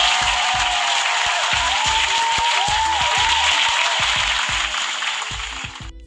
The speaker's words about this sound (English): Round of applause for my Leos in the motherfucking building.